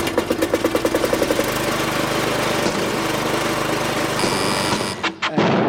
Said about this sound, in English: It's not a lawnmower. It is, in fact, Colin arriving in his car this afternoon.